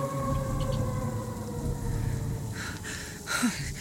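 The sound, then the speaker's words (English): A long, eerie creature's howl holds a steady, siren-like tone over a low rumble, with a few harsher noisy bursts rising near the end. No one speaks. “That was the howl I heard earlier.”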